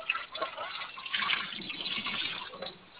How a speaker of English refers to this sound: Okay, I'm having, excuse me, Daddy, I'm having feedback in the background here on water running and dishes, I think, so if you could...